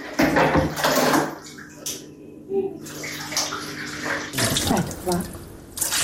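Water is poured from a canister into a washing machine at a home in the Kuće Rakića settlement near Tuzi, where there is no tap water. It is a splashing rush that surges and eases in uneven bursts over several seconds, with a low steady hum underneath.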